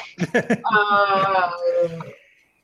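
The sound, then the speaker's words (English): A video game creature lets out a long, steady, moaning howl that holds one pitch for about a second, then fades. A few short, choppy vocal bursts come just before it. “What's up with the howl? That's probably our wolf goat friend.”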